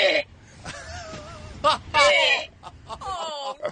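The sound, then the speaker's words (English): A pet named Beer Mug retching as it throws up, making strained, high-pitched wailing cries with wavering pitch, broken by harsh gasping bursts over a few seconds, with no one talking. “That's the noise he makes when he throws up.”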